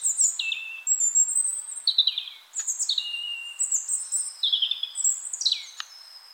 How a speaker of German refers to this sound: Was ich bei den Vögeln nach wie vor sehr, sehr gerne höre, ist der Gesang des Rotkehlchens. Das ist geblieben. Das ist einer der schönsten Gesänge für mich.